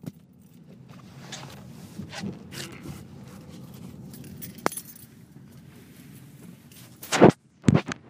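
An iPhone tumbles off its stand in a car with two loud, sharp clattering knocks in quick succession, following several seconds of steady low engine rumble and a single faint click.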